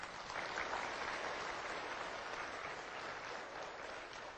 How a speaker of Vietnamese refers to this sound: Thậm chí những thầy cô đang ngồi ở đây, rất nhiều người đều đã làm được. Chúng ta cũng cho họ một tràng pháo tay.